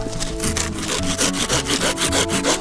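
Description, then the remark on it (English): A hand saw rasps back and forth through a woody sage plant stem in quick, steady strokes, loud, with no voices. “See how easy this is to cut?”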